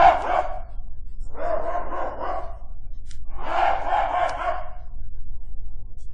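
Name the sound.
hunting dog barking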